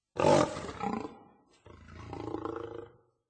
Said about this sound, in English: So they sent me a lion.